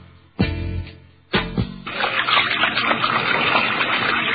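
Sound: water running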